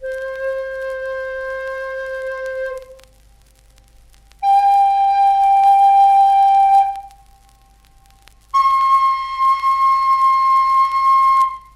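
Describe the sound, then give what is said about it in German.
A small reed pipe, the kind children cut for fun, found on a beach, is blown and sounds three long, steady tones one after another, each higher than the last, with short silent pauses between them. The notes are loud, clear and reedy, with no talking. “Es war eine kleine Rohrpfeife, wie sie die Kinder zu ihrem Vergnügen schneiden.”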